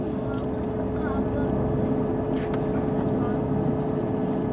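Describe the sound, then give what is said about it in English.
Steady airplane cabin noise while on the runway on Jeju island: a loud, continuous low engine rumble with a droning hum that holds evenly throughout, without pauses. “Just looking out the window of the plane, looking at what I can see of Jeju.”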